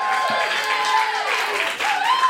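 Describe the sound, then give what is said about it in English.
An audience bursts into sustained applause to vote for 'The Art of Spanking' as their pick, a dense wash of clapping that holds steady for a couple of seconds, mixed with scattered whoops and cheering voices. “Give us a round of applause if that's the one that you're going to masturbate to.”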